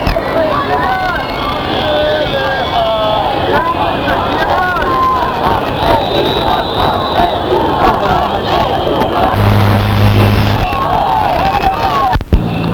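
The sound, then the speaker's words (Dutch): A large crowd of demonstrators, including animal rights activists held back by police at the palace on Dam Square in Amsterdam as European ministers arrive for a summit, shouts and chants continuously, many voices overlapping in a loud, dense roar, with a few brief sharp bangs near the end. “De Europese ministers komen binnen in uiteraard dure auto's en de demonstranten worden tegengehouden door platte petten.”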